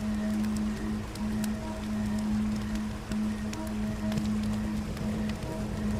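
river current flowing

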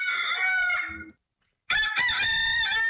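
rooster crowing

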